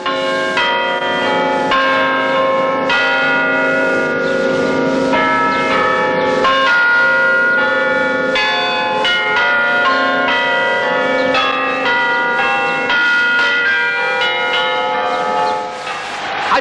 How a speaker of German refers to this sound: war auch die Aufnahme vom handgespielten Glockenspiel der Potsdamer Garnisonkirche in 65 Metern Höhe. Klänge mitten im Krieg wie aus einer anderen Welt. Am Glockenklavier mit armdicken, gedrechselten Stäben Professor Otto Becker.